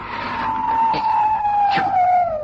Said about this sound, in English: And Ethelred uplifted his mace and struck upon the head of the dragon, which fell before him with a shriek so horrid and harsh and piercing that Ethelred had to close his ears.